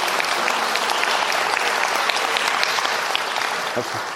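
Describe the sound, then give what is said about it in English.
An audience in a Presbyterian church claps steadily and warmly, a dense, sustained wash of many hands, continuous from start to finish with a faint murmur of voices underneath. “I've told you before about this clapping.”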